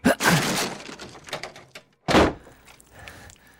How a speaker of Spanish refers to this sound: Voy a tener que forzar la puerta a la cuenta de tres. Uno. Dos.